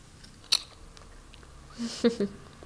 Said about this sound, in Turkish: İsterseniz yiyip tadına bakabilirsiniz. Şöyle. Şimdi mi yiyelim? Evet, şöyle bir ısırıp tadına bakabilirsiniz.